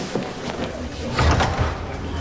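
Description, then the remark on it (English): A door in a police station office is pulled open and shut as a man grabs his coat and leaves, a brief rattle followed by a dull thud in the middle of a short stretch of background noise. “grabs his coat and follows Riley out the door”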